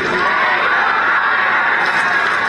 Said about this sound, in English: The students frequently interrupted his speech, yelling, "Pay your writers, we don't want you here," and "Shut up, Zaslav."